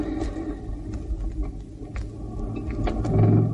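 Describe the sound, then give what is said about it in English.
A car engine rumbles low and steady, then swells louder near the end as the vehicle pulls away. No one speaks. “They're driving off now.”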